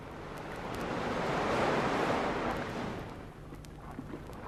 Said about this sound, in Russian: Вот оно море. Я вижу его через окошко своего ящика.